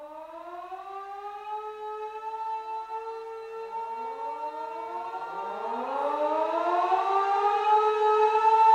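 A fire alarm siren sounds during a fire alarm drill while a building is evacuated. It wails continuously with no one speaking, its layered harmonic tones rising and gliding in pitch, growing louder and more tangled toward the end as overlapping wails sweep upward.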